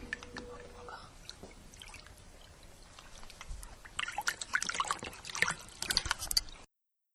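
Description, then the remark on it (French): River water trickles and burbles steadily over pebbles, growing busier and more splashy in the second half, with quick bright droplet sounds before cutting off abruptly. “La rivière est toute jolie et toute propre à présent.”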